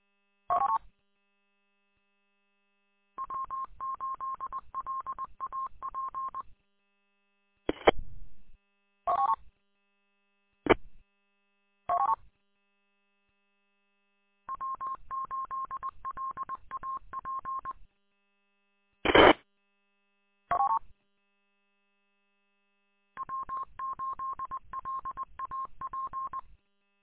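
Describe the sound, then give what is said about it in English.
Electronic telephone tones of an incoming phone call: four bursts of rapidly warbling, mid-pitched ringing, each about three seconds long, separated by short clicks and beeps over a faint steady high tone. No one speaks. “I'm getting a phone call.”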